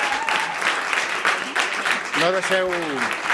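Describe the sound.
An audience at the Teatre Neu theatre in the Gràcia district claps steadily for a few seconds, a dense, loud crackle of many hands, and a voice rises briefly over the applause near the end.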